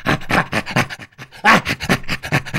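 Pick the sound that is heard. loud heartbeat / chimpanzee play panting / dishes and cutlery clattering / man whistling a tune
chimpanzee play panting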